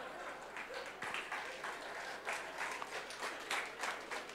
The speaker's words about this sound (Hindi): एक तो मैं सच बोल रहा हूं, ताली भी बजा रहे हैं चांद को लेकर के।